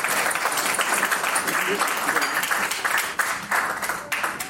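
A crowd applauds a guest being invited up on stage, a dense wash of many hands clapping at an even loudness for several seconds, with a few sharper individual claps standing out near the end.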